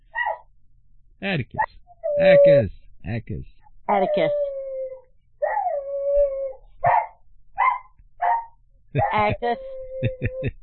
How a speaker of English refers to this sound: Now here goes Smelly. Now we're going to have a duet, dog duet here